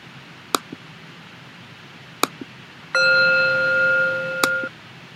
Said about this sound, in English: It's called Prodme. P-R-O-D-M-E. It's the little mindfulness bell that you can, it has a nice sound. Let's see.